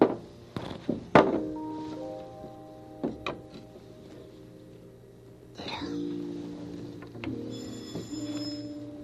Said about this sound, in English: Hey, that's the back doorbell.